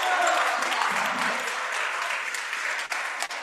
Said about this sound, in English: So that's it for your three seniors here on the home floor. Well-deserved applause there for all of them.